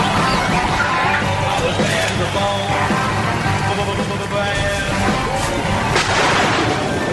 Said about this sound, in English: Listen to that firecracker this morning.